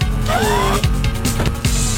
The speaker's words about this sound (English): That sounds like Cartman driving around in a car. It's because it is.